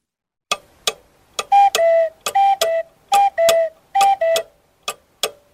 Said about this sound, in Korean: 네, 몇이 정각이 되면 시계에 있던 작은 문이 열리고 새가 튀어나오죠. 그리고 뻐꾹뻐꾹 노래했던 뻐꾹이 시계.